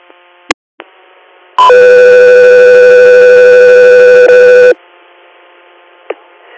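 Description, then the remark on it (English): A loud, steady electronic alert tone on an air medical dispatch radio holds for about three seconds, with harmonics stacked above it, bracketed by brief radio squelch clicks and a low static hiss. “Echo, 3 Air, stand by for tone.”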